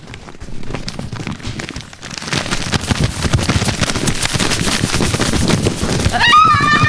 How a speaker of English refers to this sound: Darn it, sounds like rain, and I didn't bring an umbrella.